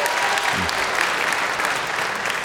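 An audience claps together in a dense, steady burst of applause that holds at an even loudness throughout, with a brief low murmur briefly showing beneath it, voting by clapping for the guess that there are between 50 and 100 senators.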